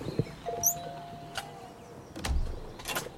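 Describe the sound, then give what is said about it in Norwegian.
A taxi pulls up and stops in front of a stone staircase in a quiet residential street of detached houses in Oslo, Norway, with a brief electric whine like a window motor, a soft thud and rustling, while birds chirp faintly. “Taxien stopper foran en steintrapp som fører opp til en hvit dør med katteluke.”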